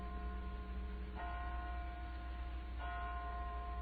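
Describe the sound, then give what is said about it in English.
Church bells ring with long, humming resonance, two fresh strikes sounding about a second and a half apart over a steady wash of tones, with no voices. “I hear bells.”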